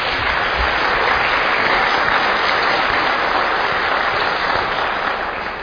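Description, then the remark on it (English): A church audience in Nebraska claps steadily for several seconds to welcome a new vicar and his family, a dense, even wash of many hands with no voices standing out, holding loud throughout before easing slightly at the end. “The only time you'll get a round of applause here, I guarantee you that.”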